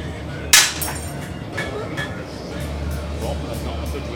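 A hammer hits metal on an anvil with one loud, bright clang that rings briefly, followed by several lighter, irregular metallic taps over a low steady hum.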